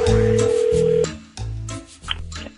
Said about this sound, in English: I'd be careful answering that call. It could be another Z Morning Zoo phone scam.